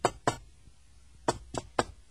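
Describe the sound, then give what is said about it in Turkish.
Someone knocks on a door: two quick raps, a short pause, then three more evenly spaced, sharp knocks, with no voices. “Hadi hoca, çalacaksan çal şu kapıyı da ne olacaksa olsun artık canım.”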